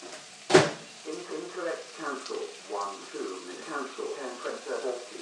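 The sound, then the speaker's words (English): A single sharp, fairly loud clunk of a microwave door near the start as burrito wraps are put in to heat, followed by a person talking quietly over a faint background. “Then I'm going to put the wraps in the microwave for about 30 seconds.”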